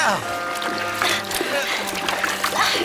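Water being bailed out of a sinking rowboat, with repeated scooping, pouring and splashing sounds, a steady hum and tones underneath.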